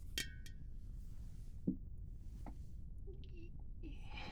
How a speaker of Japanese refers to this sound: 今日は強いの飲もう。じゃあ、乾杯。